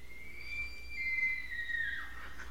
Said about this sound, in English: That's the elk.